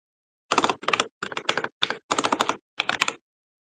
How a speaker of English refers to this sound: Whatever your current setup is, the keyboard noises are crisp. I put it so close. It's so close right now.